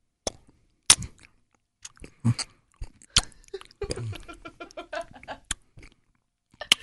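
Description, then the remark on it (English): Wet, clicky mouth noises of someone chewing close to a microphone: irregular smacks, pops and squelches, with a busier burst of moist sounds in the middle and short quiet gaps between. “Let it get the sounds of you like chewing in there.”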